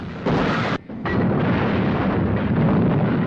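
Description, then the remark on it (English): Heavy artillery fire from fort guns pounds a warship in a dense, continuous roar of booming blasts, shells exploding around it. It pauses briefly near the start, then the loud barrage resumes without letup. “The guns continue to unleash a blistering offensive, enveloping the Amethyst in smoke and spray.”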